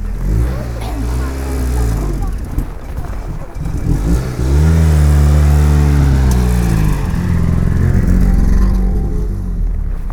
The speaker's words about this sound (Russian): Вот заводится машина. Звук моего детства.